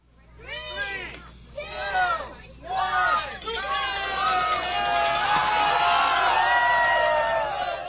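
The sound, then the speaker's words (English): A few high, excited shouts ring out, then swell into a dense, sustained roar of an outdoor crowd cheering and yelling together at zucchini races during Zucchini Fest at the Homer Farmers Market, with families under tents in the rain; loud throughout. “leads the crowd through races for a familiar festival that returned to the Homer Farmers Market last Saturday.”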